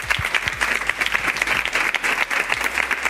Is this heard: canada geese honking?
no